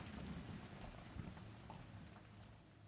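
rain falling

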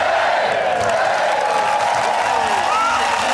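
crowd cheering and applauding

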